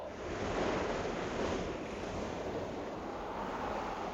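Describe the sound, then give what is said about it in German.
Steady roar of waves and surf mixed with strong, buffeting, pushing wind, loud throughout with no voices, a dense continuous rush of water and gusting air as the water comes nearer again. “Jetzt kommt das Wasser wieder näher. Ich muss hochkommen, dieser Wind drückt so.”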